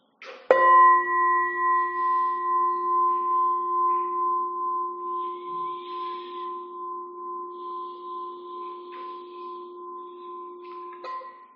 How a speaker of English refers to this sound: And I'm going to get us started with one ring of the bell. And we'll end with 3 rings of the bell.